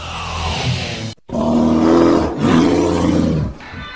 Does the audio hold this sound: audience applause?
no